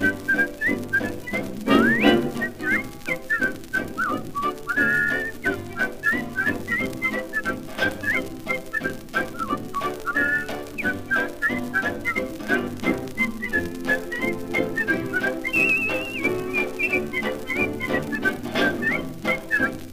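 A person whistles a lively, wavering melody for about twenty seconds, close and clear, over a steady instrumental accompaniment with no talking.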